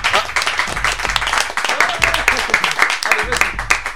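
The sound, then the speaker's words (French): An audience applauds steadily for the full four seconds, a dense, loud patter of many hands with scattered voices and cheers mixed in and a low pulsing thump underneath. “Allez-y, applaudissez-vous, il n'y a pas de problème.”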